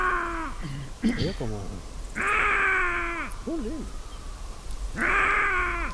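An Iberian lynx mating call: loud, drawn-out yowling cries repeat three times, broken up by shorter wavering moans and rising, catlike wails in between.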